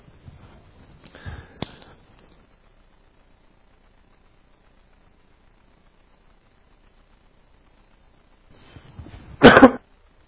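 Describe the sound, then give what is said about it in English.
Two bursts of coughing and throat clearing by a preacher suffering from allergies during a sermon, separated by about seven seconds of near silence; the second burst is louder and harsher, ending in a sharp, strong cough. “Can you silence it when you see me start to cough?”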